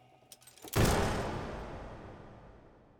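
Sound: single gunshot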